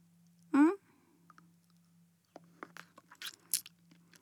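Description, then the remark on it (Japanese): Someone eats and licks hard candy: a short hummed vocal sound, a pause, then a quick run of wet mouth clicks and small crunches. “あ、飴食べてる音気になる？”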